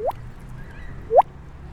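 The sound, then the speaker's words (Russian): Someone imitates water drops with their mouth, making two close, rising plops about a second apart, each a quick liquid pop against a quiet background. “Я могу показать звук капли.”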